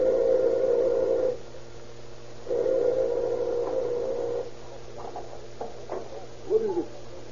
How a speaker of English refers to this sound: A few moments after he has entered the house, Dr. Hatch hears the doorbell ring.